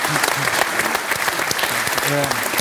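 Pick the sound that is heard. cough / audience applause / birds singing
audience applause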